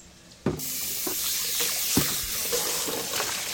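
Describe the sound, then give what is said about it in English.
About 3 cups of water pour steadily into a soup pot of parsnips from about half a second in, a continuous splashing rush with a few louder gurgles and sloshes, heard on its own. “I'm going to add about 3 cups of water to this.”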